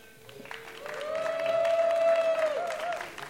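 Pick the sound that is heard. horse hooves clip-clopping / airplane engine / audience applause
audience applause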